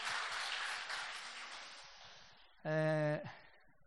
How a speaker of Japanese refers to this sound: もう一回イエス様にですね、大きな拍手をいただきましょうか。ハレルヤー。